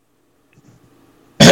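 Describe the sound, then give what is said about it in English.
One loud, harsh throat clearing, short and abrupt, coming right after a moment of near silence with faint low rumbling. “Okay, I gotta clear my throat for this one.”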